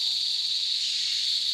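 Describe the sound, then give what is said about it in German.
A steady, high-pitched insect drone fills the forest air, an unbroken buzzing chorus that holds the same pitch and loudness throughout, with no voices or other sounds. “Wir sind in einem Wald.”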